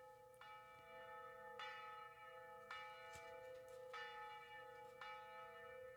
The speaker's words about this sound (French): Des cloches d'église dans le matin brumeux, c'était une des choses qu'on oubliait.